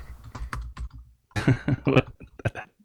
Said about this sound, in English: That keyboard is amazing.